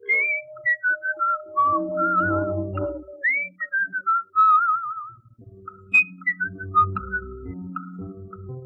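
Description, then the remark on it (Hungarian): A whistling performer whistles a run of quick warbling, trilling phrases that mimic birdsong, learned from birds, sliding and chirping in short bursts over a low, steady droning hum, with no talking. “Vidéki gyerek vagyok, a madaraktól tanultam.”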